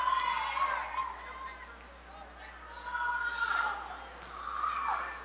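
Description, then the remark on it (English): A crowd of fans applauds in a large indoor gym after a volleyball rally ties the match at 7–7 between the Hawkettes and St. Cecilia, a steady wash of clapping that swells and fades in waves, with some cheering and chatter mixed in. “And getting a good round of applause here by all the fans.”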